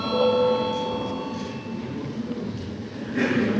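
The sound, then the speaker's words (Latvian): A parliament voting bell rings before a vote on the 11th proposal: a steady, sustained electronic tone with bright overtones, holding for several seconds over a low background murmur of the chamber. “Lūdzu zvanu.”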